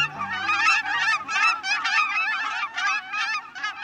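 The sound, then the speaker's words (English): A flock of cackling geese honks continuously, their high, yelping calls overlapping in a busy chorus, loud, with no voices present. “Cackling geese may look a lot like Canada geese, but their slighter build and shorter beaks give them away as a distinct species.”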